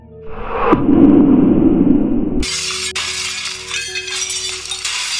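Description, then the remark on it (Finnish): A deep, rumbling explosion blast swells up, then its huge pressure wave bursts a factory's glass wall apart into millions of shards, a bright, sustained cascade of shattering and tinkling debris that keeps raining down. “Valtava paineaalto löi tehtaan lasiseinän miljooniksi sirpaleiksi.”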